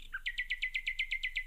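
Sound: bird song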